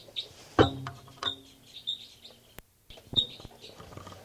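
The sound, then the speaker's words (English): Short, high-pitched calls of two birds, numbered 298 and 318, repeat irregularly, mixed with a few sharp clicking knocks, and a brief moment of silence breaks the sequence partway through. “So recording now, birds 298 and 318.”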